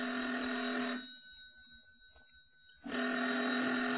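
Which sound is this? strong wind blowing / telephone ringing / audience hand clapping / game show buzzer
telephone ringing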